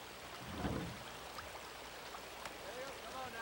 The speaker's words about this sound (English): A river bending through the forest, like so.